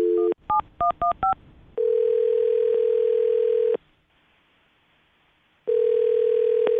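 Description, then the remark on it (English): A brief dial tone, then a rapid run of keypad dialing beeps, followed by the steady buzzing ring of an outgoing phone call that sounds, pauses for about two seconds, then rings again. “But we'll call her right now and see if we can get her on the phone.”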